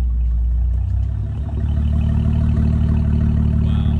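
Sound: car engine starting up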